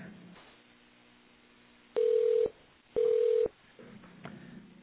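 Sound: ringing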